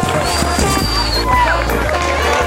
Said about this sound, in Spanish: ¡Un aplauso para todos! ¡Para todos!